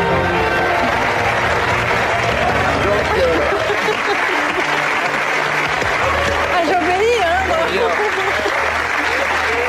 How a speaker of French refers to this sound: On est en train d'applaudir les pubs, là. Oui, c'est retour ça. Pub. On vient d'applaudir les pubs, là.